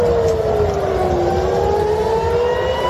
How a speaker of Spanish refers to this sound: Las sirenas han sonado en Tel Aviv y en Jerusalén en las últimas horas.